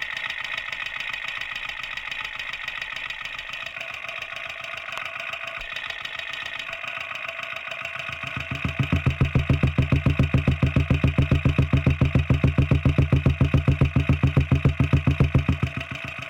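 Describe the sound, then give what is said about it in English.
A motorcycle exhaust idling, picked up through a contact mic pressed on the muffler: a steady mechanical rattle that swells midway into a loud, rapid, pulsing low thump with no voices. “Now I'm going to take the contact mic off of the muffler, as you've just heard, and I just want to touch it around different parts of the bike.”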